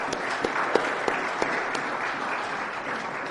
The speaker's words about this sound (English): And if they've inspired and or encouraged you also, would you just let them know that one more time by your applause?